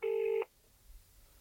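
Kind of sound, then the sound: signal or alarm, telephone dialing tones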